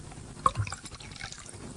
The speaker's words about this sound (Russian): Ну так наливай, раз обещал.